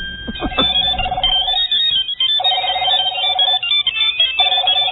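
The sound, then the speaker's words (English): A cell phone ringtone rings in repeated electronic bursts, about three rings with short pauses between, sounding somewhat thin and band-limited, with no one speaking. “Oh, cell phone ringing, obviously, right?”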